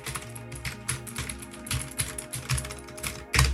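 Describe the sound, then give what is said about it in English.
Rapid, clicky keystrokes from a mechanical keyboard, fairly loud, in an uneven typing rhythm with a sharper clack near the end; no voices. “But this is what the mechanical keyboard sounds like.”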